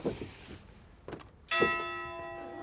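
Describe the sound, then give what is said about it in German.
A single loud strike of a clock tower bell rings out at eye level, up high beside beehives, its rich metallic tone humming and slowly fading, after a moment of faint background noise. “Ja, die Bienen wissen hier immer, was die Stunde geschlagen hat. Ne? Die Glocke im Uhrenturm haben wir hier oben auf Augenhöhe.”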